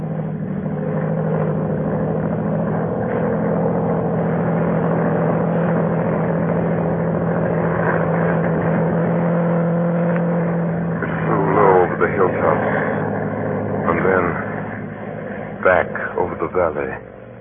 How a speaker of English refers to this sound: Low down in the south, a monoplane was climbing into the heavens. I was as certain as if I'd been told that that aeroplane was looking for me.